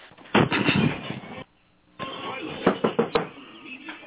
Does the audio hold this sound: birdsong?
no